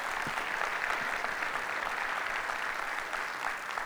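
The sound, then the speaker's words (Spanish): An audience applauds the Lord steadily, a dense wash of many hands clapping at an even level for the full few seconds, with no clear voices rising above it. “Si Dios le habló, de un aplauso al Señor, que Él se lo merece.”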